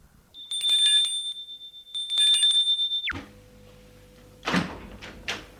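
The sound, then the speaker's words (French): A doorbell at an apartment door rings loudly in two trilling bursts, then a low hum lingers and a couple of sharp door clunks follow, with no one speaking. “Il sonne.”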